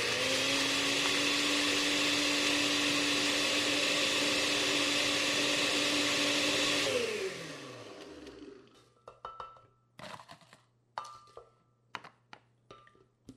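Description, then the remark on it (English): A blender roars loudly for about seven seconds, grinding 1 cup of crushed ice for a pawpaw colada drink with a harsh whine, then winds down, followed by a few scattered clinks and knocks. No one speaks. “Then I added 1 cup of crushed ice to my blender and let it rip.”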